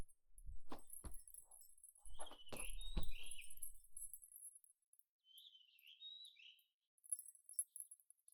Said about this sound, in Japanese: ほら、そこに止まった。なるほど、鳥か。こちらの鳥は声も姿も愛らしいな。